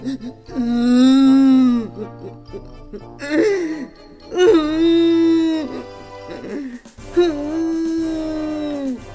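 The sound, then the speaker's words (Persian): A voice cries and whimpers in long, wavering wails, several drawn-out sobbing bursts with short pauses between, fairly loud over soft sustained background music, voicing a meat grinder character crying in a children's story. “چرخ گوشت که فهمیده بود چقدر بدی کرده شروع به گریه کرد.”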